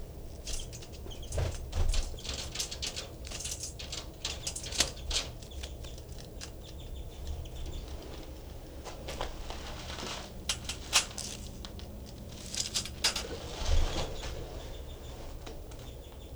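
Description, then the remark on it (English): A small caged bird, its cage door just opened, flutters its wings in soft bursts of rustling, with a few brief, high chittering calls imitating a finch. “That was him giving a little chitter there.”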